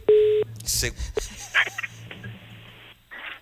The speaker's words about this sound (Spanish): Marcamos el teléfono de Carlos. El primer tono ya está sonando.